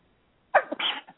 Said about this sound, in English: But... and I'm getting ready to sneeze, so excuse me.